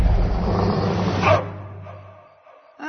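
The dog Bolt's super bark in the Walt Disney Pictures film Bolt: a loud, powerful bark that swells over a deep, rumbling roar like a revving engine, then fades into near silence.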